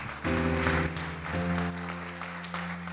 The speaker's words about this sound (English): Yeah, just, let's all clap together. Everybody clap. Just like that.